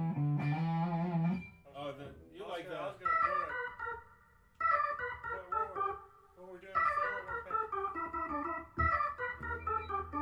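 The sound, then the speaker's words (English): A short four-bar melodic musical passage with bright, sustained notes that trail off in echoing repeats from an echo effect, played loud with brief dips between phrases. “You're always throwing it in echo.”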